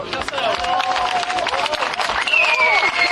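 A crowd applauds steadily, dense overlapping claps with some cheering and whistles rising above the noise throughout.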